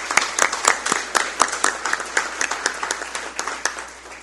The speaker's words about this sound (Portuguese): Então, uma salva de palmas a todas as pessoas que ajudaram.